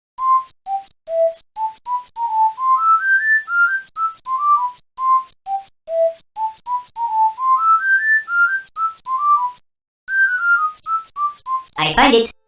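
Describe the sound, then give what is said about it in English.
A bright, clear whistled tune of a video game theme, a bouncy melody of short rising and falling notes, steady, with a brief pause near the end and an abrupt noisy burst closing it. “There was even the idea to have him whistle the World 1-1 theme from Super Mario Bros.”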